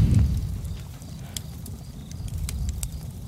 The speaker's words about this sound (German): Herzlich willkommen am Laberfeuer. Ich mache euch das Feuer schon mal an. So.